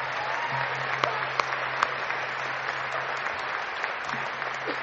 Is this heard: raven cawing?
no